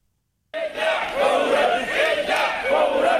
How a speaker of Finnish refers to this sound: Mielenosoittajat huutavat arabiaksi, että heidät pitäisi evakuoida kiireellisesti. Harva kuitenkaan kuulee tai kuuntelee iskulauseita Libyan pääkaupungin Tripolin syrjäkaduilla.